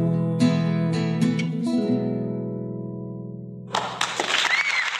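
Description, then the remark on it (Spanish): A performer's own version of a song ends on sustained, ringing guitar chords that slowly fade, then a burst of clapping applause breaks out over the last moments. “Aplausos nuevamente, hermosa versión tuya,”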